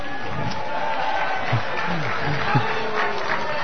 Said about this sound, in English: I hope they're not clapping because it's the last time they have to hear me.